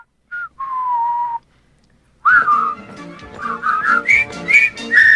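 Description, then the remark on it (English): A single whistled note rings out from one person, then after a short silence a fuller, louder whistled tune begins as others join in, with several overlapping whistles carrying a melody that climbs in pitch. “continues whistling”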